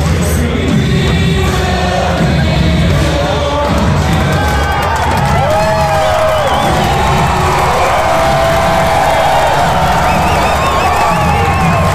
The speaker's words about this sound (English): The guy who jumped on, he's being kicked out of the game. Whoa! That's why everybody was cheering.